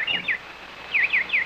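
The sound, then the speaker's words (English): A single nightingale chirps, a few quick bright tweets followed by a faster run of three rising-and-falling chirps, with no voices over them. “Go feed your birds.”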